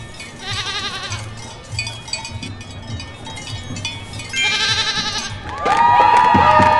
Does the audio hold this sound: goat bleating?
yes